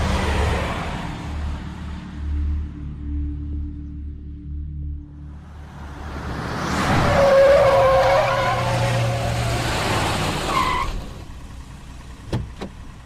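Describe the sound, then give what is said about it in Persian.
A car engine rumbles low, then surges into a loud stretch of roaring and screeching tires for several seconds before cutting off, with a couple of sharp knocks near the end. “ببین، روندن این ماشین اونم تو این حالت کار راحتی نیست.”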